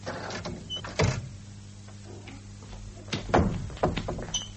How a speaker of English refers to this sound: Doors are opening.